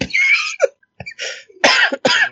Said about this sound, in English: She's just going to cough.